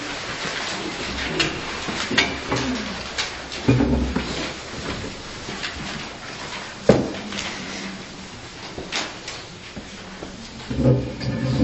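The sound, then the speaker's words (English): A chair is pulled over and set down, giving a few scattered scrapes and wooden knocks, with one sharp thump standing out over a low, steady background murmur. “I'm going to take a moment to pull a chair over here.”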